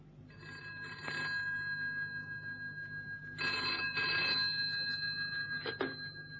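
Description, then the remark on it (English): A telephone rings in bursts, its bright electronic trill repeating a few times at moderate loudness against a steady low background hum, with no talking. “Now I've got an important phone call to make.”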